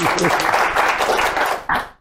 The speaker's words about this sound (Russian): Чего вы все? Я каждый раз спрашиваю, чего вы хлопаете?